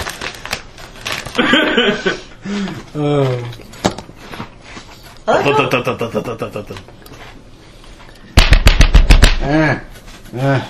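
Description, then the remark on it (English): A quick run of heavy thumping footsteps on stairs, about eight to ten loud, evenly spaced hits in a short burst, following stretches of people talking. “Yeah, you just heard the thumping of the stairs.”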